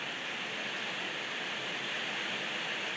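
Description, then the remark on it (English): A heavy rain shower pours down in a dense, steady hiss, unbroken and fairly loud throughout, with no voices over it. “It's been sort of drizzling, dripping and showering all day, but that, I have to say, was particularly heavy.”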